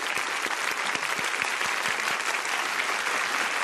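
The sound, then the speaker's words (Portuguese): An audience breaks into steady applause for the little white, thin mice, a dense, even wash of many hands clapping at a constant loudness throughout, with no voices rising above it. “Palmas para os ratinhos branquinhos, magrinhos.”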